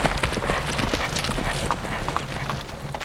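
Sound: horse hooves clip-clopping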